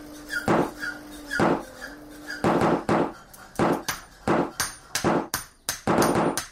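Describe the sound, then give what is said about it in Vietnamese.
Repeated rubber mallet blows ring out in an uneven rhythm, about a dozen sharp strikes with metal clanking together among them, over a faint steady hum and with no one speaking, in a workshop making prosthetic hands and legs, sandals and essential tools for leprosy patients at a care facility in Hòa Long commune, Yên Phong district, Bắc Ninh province. “Bước chân vào khu an dưỡng của các bệnh nhân Phong, không gian như lắng lại bởi vẻ tĩnh lặng, nhưng đâu đó vang lên những tiếng búa cao su, tiếng kim loại va vào nhau loảng xoảng.”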